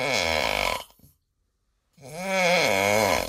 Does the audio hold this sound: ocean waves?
no